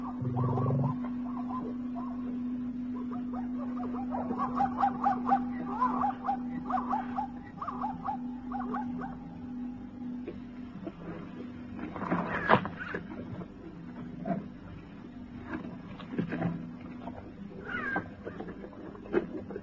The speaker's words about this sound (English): Jackals. The black-backed jackal calling to his kindred.